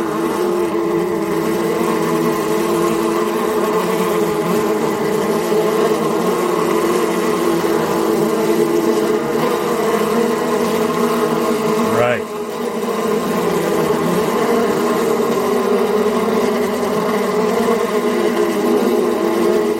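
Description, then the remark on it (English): A dense, steady droning buzz of many bees fills the whole recording, holding a loud, even pitch with a brief dip and wavering tone about two-thirds through. “There's some terrifying bees, everybody.”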